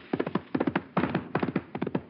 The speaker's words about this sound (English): Wait, listen. That horse is coming.